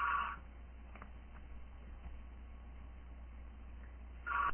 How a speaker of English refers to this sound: Sorry, I had to answer that phone call.